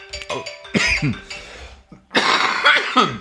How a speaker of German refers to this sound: ja, ich muss kurz husten. Sorry